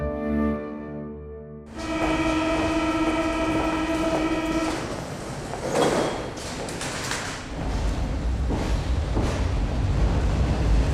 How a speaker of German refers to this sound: Mit der U-Bahn.